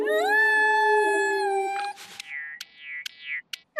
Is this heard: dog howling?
yes